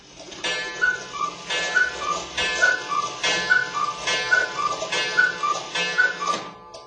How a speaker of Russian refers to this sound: В этой комнате есть характерный звук, которым она, так сказать, наполняется с момента постройки этого дома. Уже скоро он будет отмечать свое столетие. Всегда в этой комнате, в столовой, часы с кукушкой кукуют.